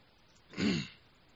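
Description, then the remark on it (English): A single rough throat clearing, fairly loud, lasting about half a second against a quiet background with no talking. “How many of you have had this cold for a while and this cough?”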